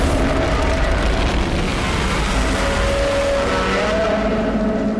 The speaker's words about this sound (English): Japanese roar. I mean, it says it all. It, yeah, well, doesn't it? It's a big monster smashing.